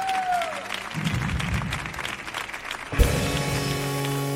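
An audience claps in a dense, steady wash of applause that holds throughout, joined partway through by sustained musical tones beneath the clapping.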